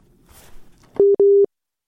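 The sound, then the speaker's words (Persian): Two loud, steady telephone busy-tone beeps follow a listener's call to a radio programme being cut off, each a flat electronic tone lasting about a fifth of a second, preceded by faint line noise and then silence. “بله شنونده عزیز صحبت کنین. قطع شد فکر میکنم.”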